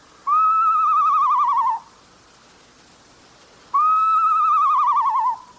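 northern saw-whet owl call

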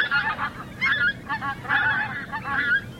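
pink-footed geese honking

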